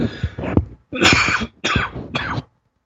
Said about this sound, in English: I'm getting over a cleanse, my spring cleanse. So if I cough a little bit, forgive me.